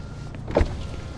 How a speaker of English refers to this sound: Keep the car on. Roll this back window down.